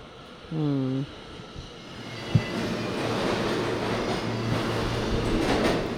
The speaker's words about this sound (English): Here comes the train.